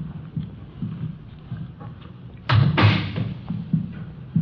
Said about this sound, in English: Here we are. I'll get the door.